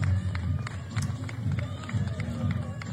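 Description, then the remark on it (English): A crowd outside a building on a red carpet at a funeral murmurs under a steady low rumble while sharp, scattered claps snap through at an uneven pace. The claps are moderately loud and irregular, and no single voice stands out. “Why are they clapping?”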